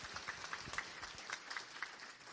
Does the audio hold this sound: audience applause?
yes